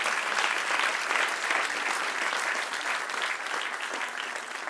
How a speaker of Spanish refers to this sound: Aleluya, dale un aplauso.